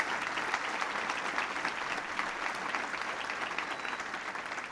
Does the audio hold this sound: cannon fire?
no